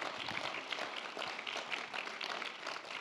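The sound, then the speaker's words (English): A crowd applauds because Tony Curtis was saved at the end of his life, many hands clapping in a dense, continuous patter that holds an even loudness throughout without pausing. “Gracias a Dios, somebody él should clap salvó that he got saved at the end of his life.”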